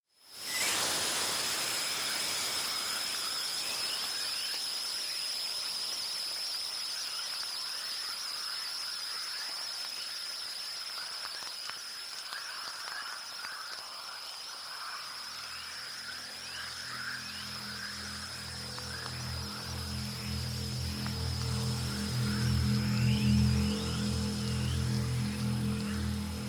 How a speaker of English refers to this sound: that sound that starts off, not what I expected Aurora to sound like as well. It's got like a radio static feeling to it, and then it blends into this orchestral, deep pulsing movement there.